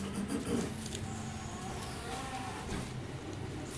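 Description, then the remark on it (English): A garbage truck engine rumbles steadily and fairly loudly, a deep idling drone with mechanical clatter running through the whole stretch and no one speaking. “Garbage trucks.”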